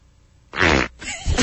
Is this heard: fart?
yes